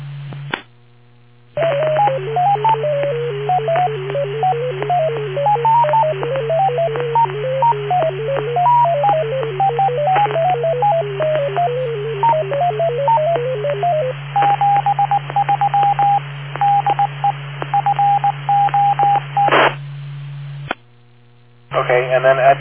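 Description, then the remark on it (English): A radio fox-hunt transmitter beacon, heard on a handheld radio, plays a fast warbling sequence of electronic tones, then switches to steady, evenly keyed beeps, all over a constant low electrical hum. “I'm going to plug in the the device here, and this is what the Fox might sound like if we use it.”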